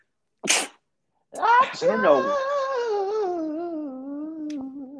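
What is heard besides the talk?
sneeze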